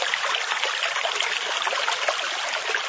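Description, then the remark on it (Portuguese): Steady running water splashes and trickles continuously as a farmer wearing protective equipment triple-rinses an empty pesticide container, a dense, hissy rinsing sound with no voices over it. “seu Oswaldo Tesolim lava a embalagem 3 vezes”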